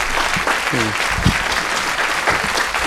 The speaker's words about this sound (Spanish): Otro aplauso para ti. Toma ya.